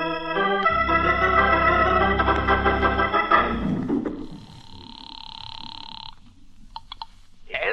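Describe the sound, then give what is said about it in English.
A loud, buzzy rumbling tone for a few seconds gives way to a telephone ringing tone as a call is placed from a phone in a ceramic shop, a steady electronic ring lasting about two seconds, then a few short clicks and bursts. “I got a lot of phoning to do.”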